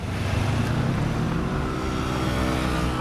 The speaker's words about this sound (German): Montagmorgen in Berlin-Mitte. Autoschlangen im Berufsverkehr. Menschen hasten in die U-Bahn. Eine alte Straßenbahn scheppert vorbei. Berlin hetzt zur Arbeit.